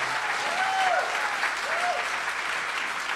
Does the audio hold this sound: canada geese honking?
no